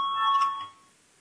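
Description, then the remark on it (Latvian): A short electric voting bell rings steadily for under a second with a bright metallic tone in a parliament, sounded before a vote on a proposal, then cuts off and fades into quiet. No one speaks. “Lūdzu, zvanu, balsosim par 66. frakcijas saskaņu priekšlikumu.”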